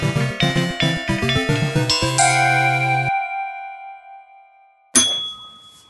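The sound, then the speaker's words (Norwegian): A quick run of bright, tinkling bell tones climbs to a sustained ringing note that fades out, followed by a single sharp ding that rings and decays alone; the bell is rung to mark a move to a new topic. “Når vi ringer i bjella, så må vi over på et helt nytt tema.”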